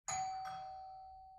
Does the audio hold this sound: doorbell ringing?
yes